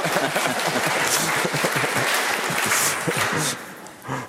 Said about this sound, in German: Der Aargau. Sie dürfen schon klatschen.